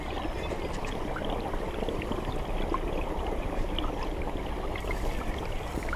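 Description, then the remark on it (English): Water flows and bubbles steadily in a stream in light rain, a continuous rushing babble with small splashes and gurgles throughout, no voices present. “Glisten drop, flow bubbly, glide rush, cascade tastic, cool bobbing, drop jewels, splosh drips”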